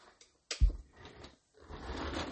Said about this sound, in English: And so let me, sorry, you're going to hear my chair rolling around here.